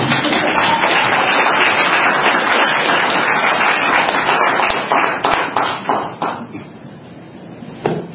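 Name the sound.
audience applauding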